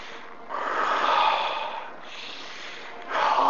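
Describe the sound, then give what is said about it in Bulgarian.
Slow, deep breaths drawn in through the nose and released through the mouth during a guided breathing exercise, airy, with about two full cycles and a new inhale beginning at the end; no talking. “Вдишване през носа, издишване през устата.”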